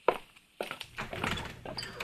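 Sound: door being opened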